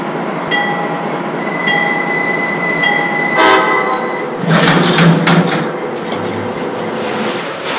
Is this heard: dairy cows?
no